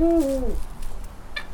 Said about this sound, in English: And she is an owl. I can identify that much. What kind of owl? This is called a Eurasian eagle owl, and that's the largest species of owl in the world. It really sounds as though she's saying, who? Like, who are you?